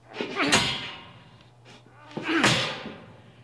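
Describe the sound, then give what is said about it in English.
Two heavy, booming blows from a sledgehammer against a stuck door, about two seconds apart, loud, each ringing briefly before fading, with no talking. “Let's try the sledgehammer again.”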